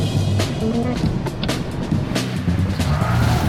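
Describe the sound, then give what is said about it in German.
A vintage 1958 Porsche 356A 1600 S sports car drives past, its engine a steady, throaty rumble with road and tire noise and a few sharp ticks and rattles throughout. No one speaks. “ich fahre einen 1958er Porsche 356a 1600 S.”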